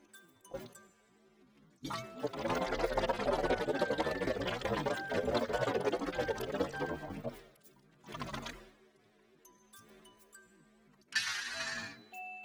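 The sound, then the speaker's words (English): Wet sloshing as water is swished around inside a mouth for about five seconds, gurgly and bubbly, followed by a brief splash and a soft hiss of breath. “I was swishing the water in my mouth.”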